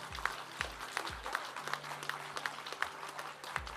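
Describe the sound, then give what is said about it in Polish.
An audience applauds steadily for girls who won an olympiad final with the maximum score of 30 out of 30 points, a dense wash of clapping with no voices, accompanied by a regular deep thumping beat roughly every half second. “Brawa dziewczyny.”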